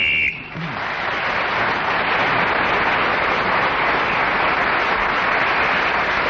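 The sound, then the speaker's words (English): A short, sharp whistle blast sounds at the very start, blown to end the round, then is immediately swallowed by loud, sustained applause and crowd noise that fills the rest of the moment. “Ian Rice's horse kept him going to the whistle when gained that extra point”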